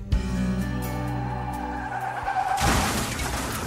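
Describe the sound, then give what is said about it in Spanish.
Tires screech in a long, loud skid with a wavering whine, then a harsh crash of crunching metal and shattering glass as a car crashes on a municipal road. There's no talking. “Regresando a casa después de una guardia, su auto se estrelló en la carretera municipal.”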